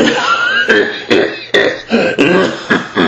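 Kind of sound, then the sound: vocal imitation, imitated smoker's morning cough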